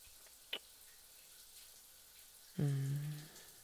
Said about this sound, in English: Just here, let me turn off the shower.